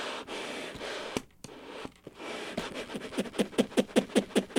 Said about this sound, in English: And you just heard the bellows kind of squeezing, flopping together. So yeah, there's a whole bunch of effects you can get.